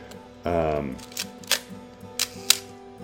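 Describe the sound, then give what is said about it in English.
A brief voice sound comes first, then the shutter of an F2 camera fires several times: four crisp mechanical clicks spaced irregularly, roughly in two pairs, with quiet between them. “It's got a great sounding shutter.”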